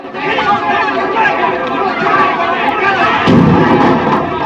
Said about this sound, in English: Pike punches the man in an attempt to quieten him. Trumbo retaliates and a fight ensues.